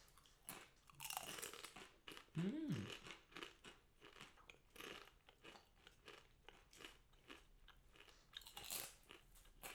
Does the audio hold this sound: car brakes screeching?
no